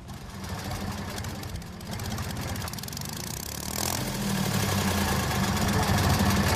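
A Renfe commuter train's diesel engine idles with a steady, low rumbling throb, then revs up slightly partway through and holds a louder, even drone to the end.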